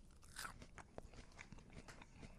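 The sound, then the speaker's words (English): A crisp, crunchy bite into fresh raw cuitlacoche, followed by a few seconds of crackly chewing, with no talking. “Crispy, crunchy. I can hear that crunch.”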